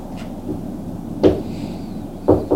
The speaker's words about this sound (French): on a frappé à la porte. Entrez.